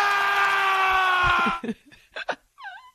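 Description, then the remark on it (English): Hockey player Alexander Ovechkin lets out a loud, sustained scream for over a second, followed by a few short, ragged yells and a final wavering shout, all unrestrained. “Oh, I do miss hockey whenever I think about Alexander Ovechkin and him screaming and yelling like a crazy man.”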